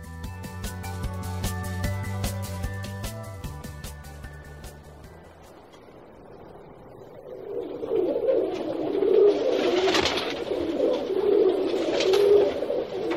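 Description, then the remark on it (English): A brief stretch of music fades out, giving way to city pigeons (rock doves) cooing: soft, throaty, repeated coos overlapping from several birds, steady and fairly loud. “City birds, pigeons, rats with wings, whatever you call them, their coos and presence is well known.”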